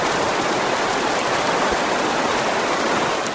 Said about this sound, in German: Wir müssen hier durch, bis zu den kleinen Wasserfällen. Ich sehe sie schon, da sind sie.